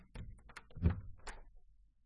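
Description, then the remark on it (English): A classroom door being opened slowly, with a few soft clicks of the handle and a dull wooden thump in the middle, with no voices. “Very slowly, Elliot opened the classroom door and peeked in.”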